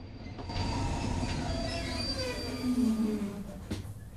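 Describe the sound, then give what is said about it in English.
A train rumbles and grinds to a stop in the middle of the countryside, steel wheels squealing in drawn-out, descending metallic tones over a heavy low rumble, ending with a faint clunk. “train grinds to a halt in the middle of the blank countryside.”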